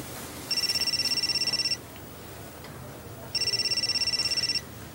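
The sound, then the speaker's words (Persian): A mobile phone ringtone, a call from home, sounds in two rapid trilling bursts, each lasting just over a second, separated by a short pause, clear over a quiet background. “نمیخواین گوشیتون رو جواب بدین؟”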